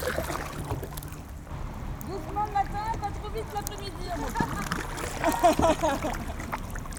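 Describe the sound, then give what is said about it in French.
Canoe paddling on a busy lake, with steady water swishes and light splashes under a breezy, rushing outdoor hiss, and faint muffled voices drifting in the middle and near the end. “Oh, j'adore le canoë.”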